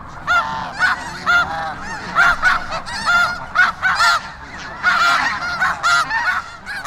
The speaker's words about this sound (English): Rain continues this morning. I slept but very little last night for the noise kept during the whole of the night by the swans, geese, white and gray brant ducks on a small sand island close by. They were immensely numerous, and their noise horrid.